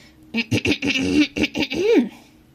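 man clearing his throat

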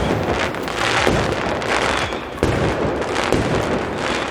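fireworks

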